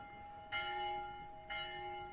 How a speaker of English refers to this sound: Who pulls the town hall bell rope but blind Captain Cat? One by one, the sleepers are wrung out of sleep this one morning as every morning.